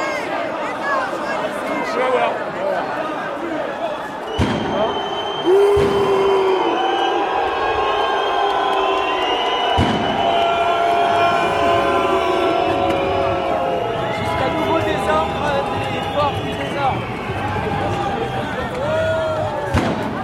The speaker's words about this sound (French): une manif interdite qui se met en place pour justement revendiquer le droit de manifester